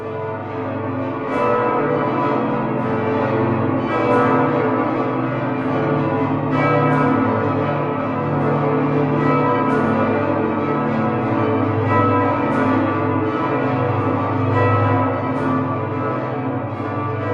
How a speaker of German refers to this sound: diese Glocken sind tatsächlich ja im ausgehenden Mittelalter direkt vorm Dom auf dem Burgplatz gegossen worden, aber tonnenschwer eben